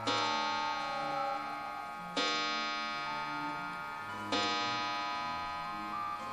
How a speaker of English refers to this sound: As I walk through the entrance, I hear the English clock strike 5 times.